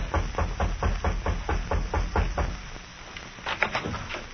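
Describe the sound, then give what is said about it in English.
A man raps on the door of a little house in the frontier town of Pierre in the Dakota Territory: a steady series of firm knocks on a wooden door, about ten raps in a quick even rhythm, followed by a pause and a couple of softer clattering sounds. No one speaks. “A man walked briskly up the steps of a little house in the frontier town of Pierre in the Dakota Territory and rapped on the door.”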